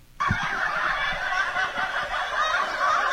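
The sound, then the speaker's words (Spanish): Canned studio laughter cuts in abruptly and keeps going: a dense, loud crowd of cackling voices with a slightly squawky, almost gobbling quality. No one speaks over it. “No, es que son risas grabadas.”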